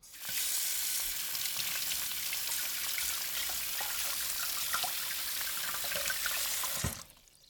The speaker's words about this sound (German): Am Anfang wasche ich das Gemüse unter fließendem Wasser. Ich säubere die frischen Chilis mit dem Wasser.